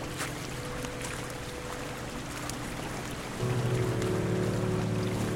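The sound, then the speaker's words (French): Water from a small fountain and a stream that flows into the Vienne river runs steadily and continuously, an even rushing with a low droning hum beneath it that swells louder partway through. No one speaks. “Voilà, petite fontaine, le ruisseau que je vous disais tout à l'heure qui coule, qui rejoint la Vienne, puis la fontaine qui est là.”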